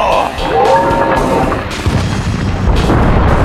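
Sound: explosion boom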